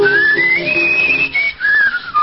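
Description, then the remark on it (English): A person whistles a flowing classical melody with a clear, steady tone, the pitch gliding up and down between sustained notes, fairly loud with no talking. “I'm awfully glad those teeth of yours aren't removable. I'd love to hear you whistle through them.”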